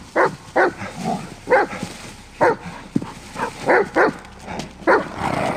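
A dog barks repeatedly at a steady, insistent pace, about nine sharp barks in quick succession, fairly loud with no one talking over it.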